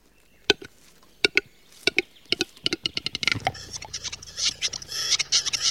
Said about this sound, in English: The capercaillie plays in the spring night.